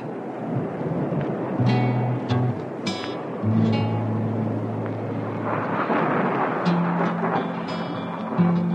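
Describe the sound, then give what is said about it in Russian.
Heavy rain pours steadily while deep thunder rumbles and rolls underneath, with a few sharper crackles breaking through. No one speaks, and the storm stays loud throughout. “Гремел гром, сверкала молния, дождь лил, как из ведра.”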